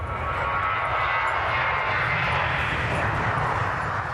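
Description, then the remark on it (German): A steady, loud roar of an airplane taking off behind a fence at the airport in Hamburg's Niendorf district, a broad engine rumble that holds constant throughout without any talking. “Hinter der Umzäunung heben die Flugzeuge ab.”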